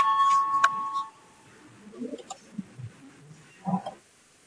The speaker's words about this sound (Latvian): Lūdzu zvanu, balsosim par 38. Deputātas Papuls priekšlikumu.